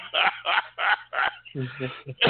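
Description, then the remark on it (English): Loud coughing after drinking some water, in a quick run of about five harsh bursts, followed by a few rougher, throaty voiced coughs. “I drunk some water right quick and went down the road. Throw to whatever started me to cough.”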